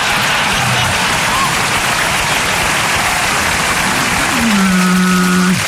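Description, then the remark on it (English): A loud, continuous wet splattering and spraying sound effect of whale diarrhea runs throughout, joined near the end by a low, sliding groan-like tone. No one speaks. “The old whale geography diarrhea joke.”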